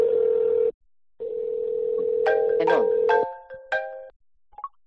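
A steady phone dial tone hums, breaks off briefly, then returns as a quick series of touch-tone dialing beeps plays over it and continues after the tone cuts out, as a cell phone number is dialed from a dial pad.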